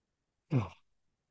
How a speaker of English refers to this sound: I'm going to yawn again.